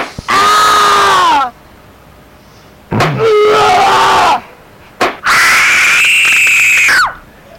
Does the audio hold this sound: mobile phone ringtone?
no